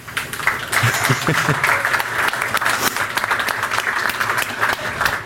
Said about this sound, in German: Also da auch einen ganz herzlichen Dank für die HelferInnen. Die kriegen jetzt sogar einen Applaus.